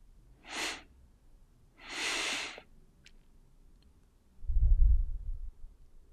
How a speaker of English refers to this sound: We're going to focus on taking two big inhales through your nose, breathing through your diaphragm, and exhale through your mouth, focusing on stomach breathing. We're going to do three of them together right now.